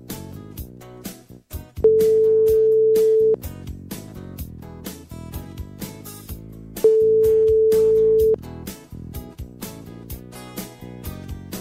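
Two long, steady telephone ringback tones, about five seconds apart, sound clearly over busy background music as a call is placed.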